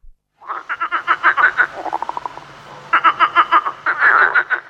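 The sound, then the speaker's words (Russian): A starling imitates a frog's croaking: several bursts of rapid, rattling croaks in quick pulsed trains, fairly loud, with no talking. “Ой, похоже. Ква-ква. Ну, скворец молодец.”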